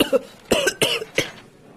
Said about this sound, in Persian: سرفه کردی؟ چند تا سرفه بود.